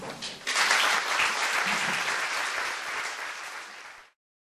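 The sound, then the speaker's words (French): Warm audience applause, a dense, steady wash of many hands clapping at a fairly loud level for about four seconds before cutting off abruptly. No one speaks over it. “La chaleur des applaudissements.”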